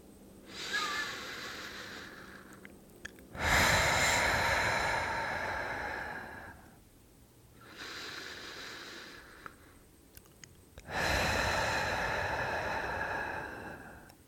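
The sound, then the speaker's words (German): Slow, audible breathing as a breathing exercise, inhaling for a count of two and exhaling for a count of four: a softer inhale followed by a longer, louder breathy exhale, repeated twice in a steady rhythm with no talking. “Lass uns ein paar Atemzüge nehmen. Wir atmen ein auf 2. Und atmen aus auf 4.”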